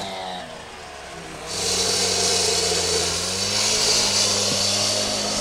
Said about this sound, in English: And so I'd say right now about half of the concrete here is gone. They've been working all morning, hammering away at the concrete.